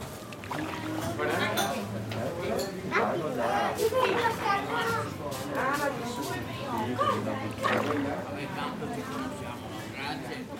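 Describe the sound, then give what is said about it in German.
Water splashes and laps while several voices chatter and call out in Italian, a lively busy scene with steady background bustle throughout. “Ich höre da Italienisch und Wasser, aber das Wasser, da müssen wir noch mal genauer hinhören.”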